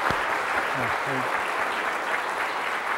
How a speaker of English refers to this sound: I think you should hug a board member when you see them. And I'd like to give them another round of applause for the great work.